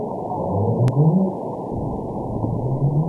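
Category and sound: animal, whales singing underwater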